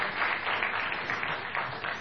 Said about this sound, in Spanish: Sí, sí, señor. Un aplauso para Guilé. Estará Guilé. Se aplauden a cualquiera.